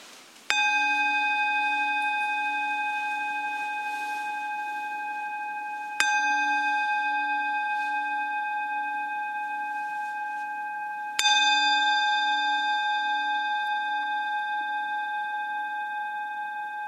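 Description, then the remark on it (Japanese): A resonant bell is struck three times at slow, even intervals in Shakujii, Nerima Ward, Tokyo, each ring sustaining and slowly decaying into the next, clear, with no talking. “はい、じゃあまずはね、鐘を3つ鳴らしますので、その鐘の音に注意を向けてください。”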